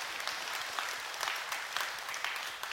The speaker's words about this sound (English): If you think that, amen, that's worthy of applause.